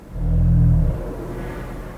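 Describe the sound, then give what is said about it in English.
A humpback whale's deep thrum, an aerial signal recorded with above-water microphones at a humpback whale hotspot near Petersburg, Alaska: a loud, low, buzzy tone with stacked harmonics lasting under a second, then trailing off into a softer rumble. “There's also what's known as a thrum.”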